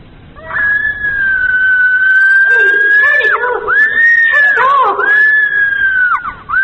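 A long, piercing scream played back from a tape, sustained for several seconds with brief catches and wavering pitch; loud but thin and muffled, with a lo-fi recorded quality.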